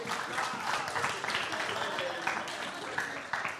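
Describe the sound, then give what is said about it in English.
A round of applause from a group for their helpers, steady dense clapping running the whole few seconds at an even loudness, with a murmur of voices mixed in. “Let's give a round of applause for our helpers.”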